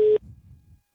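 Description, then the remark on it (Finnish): A loud, steady telephone ringing tone of an outgoing call to a guest sounds briefly and cuts off, leaving a faint, low line rumble. No one speaks. “Laitetaanpa tälle syksylle ensimmäistä kertaa puhelinlinjat kuumaksi ja katsotaan, saahanko Ossi Oikarinen puhelimen päähän.”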